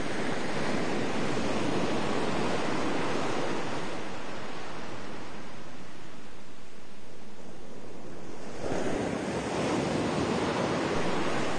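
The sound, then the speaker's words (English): Continuous ocean surf rolls in with a broad, hissing roar, swelling and easing as waves wash against the shore, with a noticeable surge near the end; no voices are present. “Feel the beauty and the majesty of the ocean rising from all around you.”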